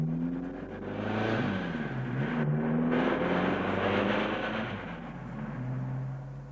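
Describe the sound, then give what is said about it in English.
A car engine hums and revs steadily for several seconds as a man backs his car out of the garage and drives away from his house in a small village near Southampton, its pitch shifting as it pulls off, with no voices present and only a slight fade toward the end. “He laughed and drove away.”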